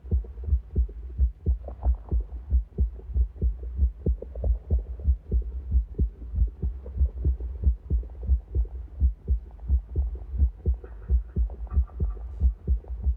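A deep, amplified heartbeat, captured as a heartbeat signal and manipulated by an artist into an audio-visual composition for a research performance, thumps steadily and loudly, its low pulses repeating in a quick, regular rhythm over a murky electronic hum, with no voices present.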